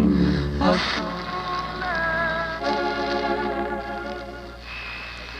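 Steady rain falls in a continuous, even hiss, mixed with sustained musical tones that swell and shift over the few seconds. No voices.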